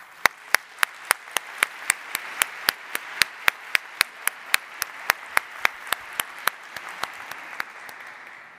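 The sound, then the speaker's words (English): Applause for a church's clergy, with one sharp clapper keeping a steady, even rhythm over a softer wash of clapping, gradually thinning out toward the end. No talking. “For all that your clergy do in this place, let's give them all a round of applause.”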